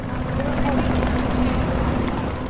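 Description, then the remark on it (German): Busy harbor ambience at 11 a.m. in the port of Barcelona, Spain, where buses wait with their engines running: a steady, fairly loud wash of noise with a low droning engine hum throughout, and indistinct voices faint in the background. “11 Uhr im Hafen von Barcelona.”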